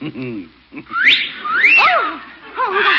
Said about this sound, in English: Oh, what was that? That's a parrot. Very talented.